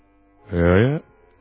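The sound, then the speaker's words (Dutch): A single low, reedy woodwind note from a bass clarinet, held for about half a second with a slight bend in pitch, clear, then silence. “Of zo, vroeg de basklarinet.”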